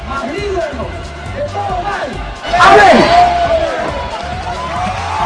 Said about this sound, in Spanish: El aplauso respectivo de los hinchas luego de ese Padre Nuestro, a viva voz para muchos hinchas.